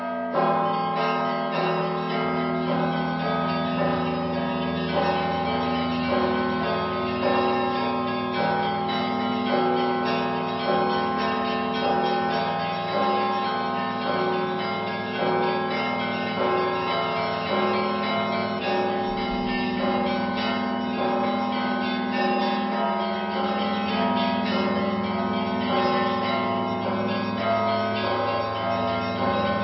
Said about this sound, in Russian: а цяпер у гэтыя калядныя дні будзе, дарэчы, паслухаць звон, які так і называецца – святочны. За званара – вучань Віцебскай звоннай школы Максім Лемачка.